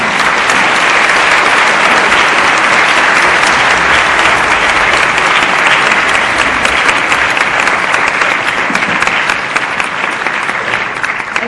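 Sustained audience applause thanking Jeffrey Sachs, a dense steady patter of many hands clapping at an even loudness for the full stretch, with no voices rising above it.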